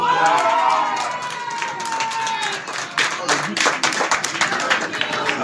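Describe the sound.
Spectators in the stands at a match between two youth teams in Savonnières, near Tours, on a Saturday in May, cheer and shout, young voices rising over steady applause; a few sharper claps and whoops punctuate the continuous, fairly loud noise.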